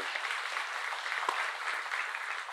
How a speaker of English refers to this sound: let's give us a round of applause